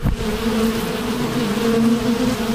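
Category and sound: insect, bees buzzing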